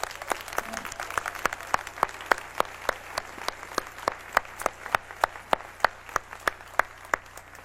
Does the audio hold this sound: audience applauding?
yes